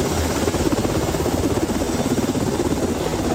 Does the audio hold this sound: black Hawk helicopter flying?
yes